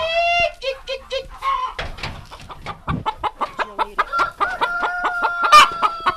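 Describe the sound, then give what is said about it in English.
A flock of chickens clucks busily at a family's egg-business chicken coop in Cottondale, Alabama, as the dinner bell is rung, with rapid overlapping squawks and chatter in an irregular, lively rhythm, plus a few higher drawn-out calls near the end. “Rena Jarvis is ringing the dinner bell at her family's chicken coop”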